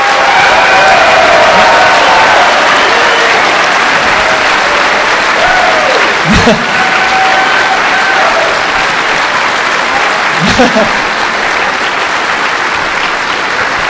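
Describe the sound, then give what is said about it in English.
A crowd gives sustained applause for everybody who helped run the show, a dense wash of clapping that stays loud and steady for the whole stretch, with a few scattered whoops and cheers rising out of the crowd. “raise your hand if you somehow helped run this show, and let's get a round of applause for everybody who helped out.”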